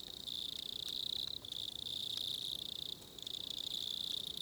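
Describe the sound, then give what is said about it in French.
Insects hidden under the leaf litter chirp steadily on a cool September night in a dense, high-pitched trill that pauses briefly twice, with a soft background hum and no voices. “Mais ça ne dérange pas trop ces insectes qui se camouflent sous la litière la nuit.”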